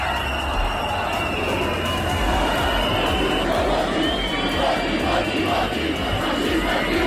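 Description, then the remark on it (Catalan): A large crowd at the Patum festival shouts and jeers in protest against Aliança Catalana leader Sílvia Riols, with long shrill whistles piercing the steady roar of voices throughout. “Una pluja que va marcar de ple la Patum, marcada també pels xiulets contra la líder d'Aliança Catalana, Sílvia Riols.”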